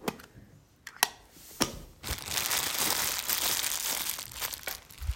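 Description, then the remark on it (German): A few sharp clicks and rustles, then a steady stretch of paper crinkling and crumpling as the character Herr Matze Maulwurf pulls letters out of his mailbox and handles them, fairly loud with no voices. “Ach, es ist Herr Matze Maulwurf, der seinen Briefkasten leert.”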